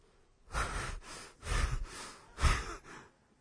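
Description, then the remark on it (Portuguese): A person breathes heavily in exaggerated, panting breaths: about four loud, breathy huffs in an uneven rhythm, with no talking. “Você já está ofegante?”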